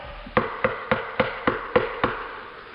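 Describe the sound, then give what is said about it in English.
Seven quick, evenly spaced knocks on a door, sharp and fairly loud, over a steady background hiss, with no voices. “The banker comes and knocks on your door.”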